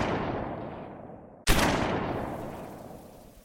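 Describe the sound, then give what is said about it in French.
A sharp gunshot cracks out midway, before dawn near the Fort des Boulets, its echo rolling away slowly, following the fading tail of an earlier shot. The booming reverberation suggests open surroundings, with no voices. “Le mardi, avant l'aube, il y eut des coups de feu du côté du fort des Boulets.”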